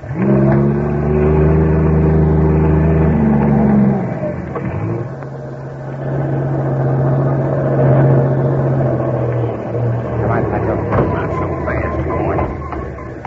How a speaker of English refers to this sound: Suddenly, the silence of the night is broken by the roar of a trailer truck climbing the steep highway.